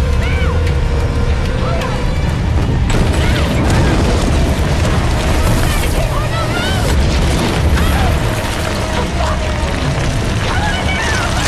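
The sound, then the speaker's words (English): A loud, sustained rumble of a large piece of rock shifting and collapsing overhead in a tunnel, deep and grinding, intensifying after a few seconds into a heavy crashing roar, with strained voices faintly audible beneath it. “Suddenly, a large piece of rock shifts above them in the tunnel.”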